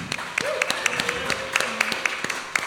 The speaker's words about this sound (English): got one more song for you guys, but first I want to give a little round of applause